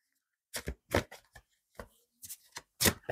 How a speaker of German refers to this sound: Und ich möchte auch nochmal ein paar andere Karten dazulegen.